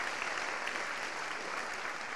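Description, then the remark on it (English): A crowd applauds the men who attended Mighty Men in 2010, a dense wash of many hands clapping at an even, sustained loudness throughout, with no voices standing out above it. “Give these guys a big clap, man.”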